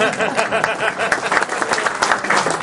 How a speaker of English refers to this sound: I don't know how else to respond. Applause seems a little weird, but let's clap.